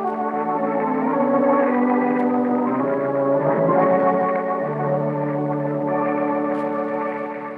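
The clock in Glen Falls Town Hall chimes, its overlapping bell tones blending into a steady, ringing wash that stays loud throughout, with no voices.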